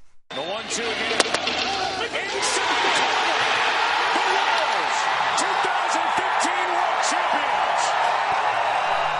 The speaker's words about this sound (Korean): 예, 일요일 밤 캔자스시티가 우승하는 순간 함성 소리 네. 잠시 들으셨는데요. 네. 예, 캔자스시티 로열스는 이날 상대 팀인 뉴욕 메츠 구장에서 열린 월드 시리즈 5차전 경기에서 이 12회까지 가는 연장전 끝에 7대 2로 승리를 거뒀습니다.